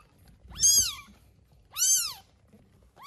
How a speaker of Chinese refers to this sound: 宝宝刚出生，眼睛还没有睁开，但多少已经能够感知这个世界了。它们的耳朵平贴在头部，听力还没有发育完全。小猫咪会自动寻找奶水喝，而且一出生就可以发出声音。